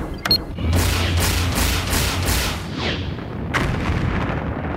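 gunshot

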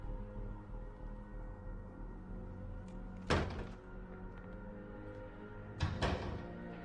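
door being opened

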